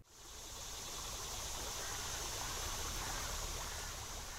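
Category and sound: nature, creek water flowing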